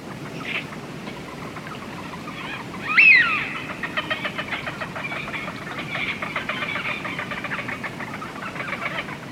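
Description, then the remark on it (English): Wigeon ducks calling, with one sharp whistled 'wheeoo' standing out near the start over a steady, murmuring chatter of many birds, as if from a flock. “The widgeon is a colourful duck that can often be spotted wheeling around our skies in large flocks.”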